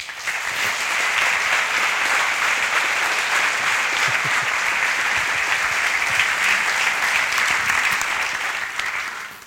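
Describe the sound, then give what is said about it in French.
A full audience claps steadily for several seconds to welcome a speaker, a dense, even wash of hand claps with no talking, tapering off slightly at the very end. “Merci d'applaudir Alexandre.”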